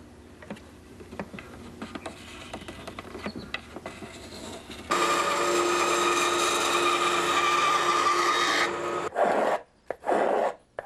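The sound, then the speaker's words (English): Wood being planed with a small wooden plane with a curved bottom, scooping out the inside of a violin top: scattered clicks and short scrapes, then a steady rasping shave for several seconds, ending in a few brief strokes. No one speaks. “What we have here is a small wooden plane with a curved bottom on it to scoop out the inside of the top.”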